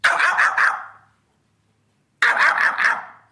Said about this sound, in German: Der Fuchs zum Beispiel hat seine Paarungszeit im Jänner, Februar und der bellt. Er macht es ja so.